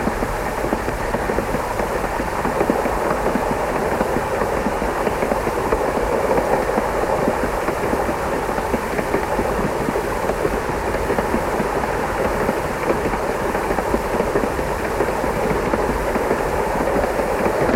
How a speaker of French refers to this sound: Le train s'est mis en route.